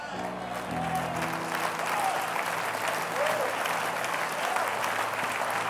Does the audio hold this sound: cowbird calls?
no